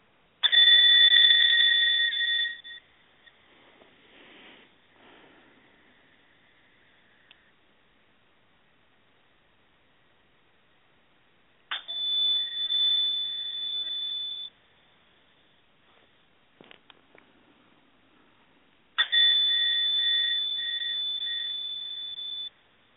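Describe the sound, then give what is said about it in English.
A bright meditation chime is struck three times, each note ringing out clearly and fading slowly, with long quiet pauses between the strikes and no talking over them. “I got the message that what how I'd like to start is I'm going to ring or chime the bell 3 times.”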